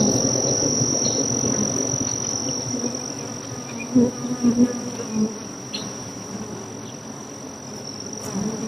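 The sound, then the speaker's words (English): A dense, steady drone of many bees buzzing in a hive with a microphone held up to them, continuous, swelling briefly in a few louder bursts midway, with a thin high whine running throughout. “Wait, I'm going to put the microphone up to them so that they can say something.”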